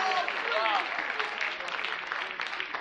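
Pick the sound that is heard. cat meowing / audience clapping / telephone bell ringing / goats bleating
audience clapping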